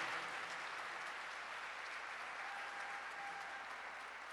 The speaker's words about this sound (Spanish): Pues vamos a dar un fuerte aplauso al Rey de Reyes y Señor de Señores. Amén.